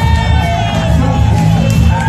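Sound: crowd cheering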